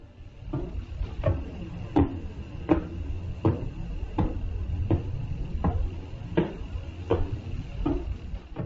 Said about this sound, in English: Yes, it sounds like someone knocking at the door.